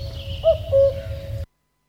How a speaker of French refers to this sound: Voilà, et il va chanter du moment où il arrive jusqu'au mois de juillet à peu près. Écoutons son chant. Coucou.